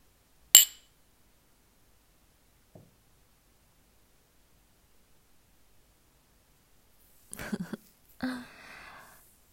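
A single bright clink of glasses in a drinking toast with alcohol rings out, then fades into near silence before a few quick clattering knocks and a soft rustle near the end.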